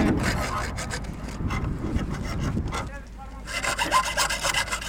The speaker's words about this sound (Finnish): Mitä pojat tekee? Puttiliitoksia. Otetaan pois. Te sahaatte jotakin metallia siihen.